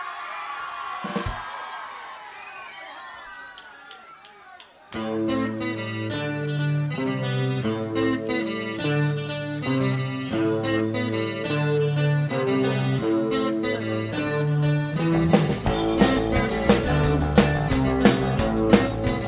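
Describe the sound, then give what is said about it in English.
A crowd cheers and whoops briefly, then a live band launches into a steady rock tune with distorted guitars and pounding drums, swelling louder and fuller toward the end. “This is a … number. It's called ….”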